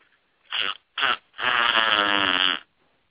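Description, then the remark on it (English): A loud, buzzy fart in three bursts: two short blasts followed by one long, drawn-out rumble, with no talking over it. “Did you fart?”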